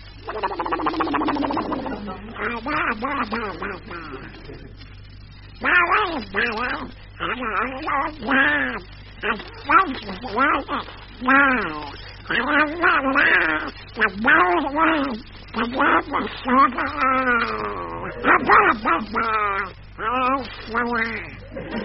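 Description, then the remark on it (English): A raspy, quacking Donald Duck voice, a human imitating the duck, recites the nursery rhyme Mary Had a Little Lamb in garbled, sing-song phrases, steady for about twenty seconds with brief pauses between lines. “Why, there's Donald Duck reciting, Mary Had a Little Lamb.”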